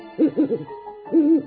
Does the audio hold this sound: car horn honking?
no